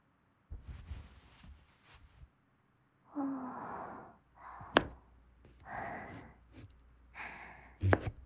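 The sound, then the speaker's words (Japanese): A knife chops through hard sweet potato with two sharp, solid thunks spaced a few seconds apart, amid heavy, effortful breathing and sighs. “さつまいもは硬いからちょっと力を入れないとね。”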